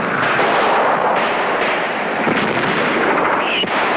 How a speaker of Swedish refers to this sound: Signalskott vid Tornio seminarium bådar strid i själva staden. Seminariet är ett av tyskarnas tillhåll. Kriget är bara 600 meter borta nu. Direkt eld och rikoschetter viner kring svenska observatörer.